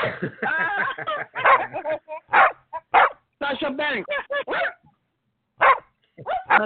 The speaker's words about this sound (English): every time we say Sasha Banks, she barks